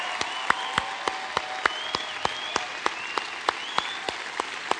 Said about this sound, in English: And let's give him and all the firefighters a round of applause. Amen.